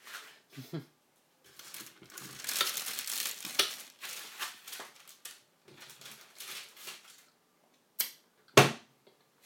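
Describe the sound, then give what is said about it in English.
A window being opened: scraping, rattling handling noises build over several seconds, then a few scattered clicks and a sharp knock near the end. “Have to open the window because it absolutely stinks of curry in here.”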